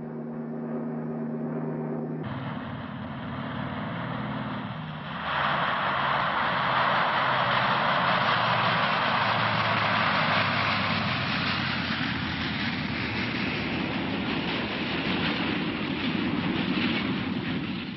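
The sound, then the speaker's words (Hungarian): A propeller airplane's engine drones loudly and steadily as it comes in to land on the narrow Kegel-Sogl airstrip at 2300 metres altitude, surrounded by a few small huts in forest. The roar swells and grows rougher a few seconds in, with no voices heard. “A repülőgép 2300 méter magasságban száll le velünk Kegel-Sogl repülőterén.”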